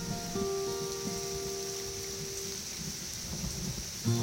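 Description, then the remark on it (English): Steady, dense rain pours down during a thunderstorm on meadows high atop the Colorado Plateau, above the rim of the Grand Canyon in the American Southwest: a continuous hiss with a low rumble beneath and faint sustained tones; no one speaks. “In the meadows, high atop the Colorado Plateau, much-needed rain soaks the land.”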